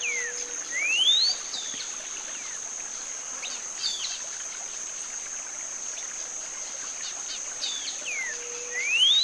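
Whistled song of a cinnamon-bellied saltator in a morning chorus: clear, rising whistled phrases at the start and end, each sweeping upward, over a steady high insect drone and scattered soft bird chirps.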